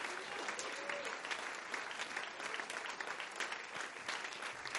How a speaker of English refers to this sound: If you believe that word, clap your hands and tell the Lord thank you.